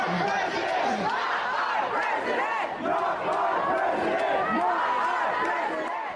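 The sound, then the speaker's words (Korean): A large crowd of protesters in California chants slogans in unison, including "Not my president", against President-elect Donald Trump and calling for California to secede from the United States; loud and steady with rhythmic rising shouts repeating throughout, many voices blending into a dense roar with no break. “나의 대통령이 아니다라는 구호를 외치면서 트럼프 당선인에 반대하고 캘리포니아주 연방 탈퇴를 외치는 시위대 목소리 들어보셨는데요.”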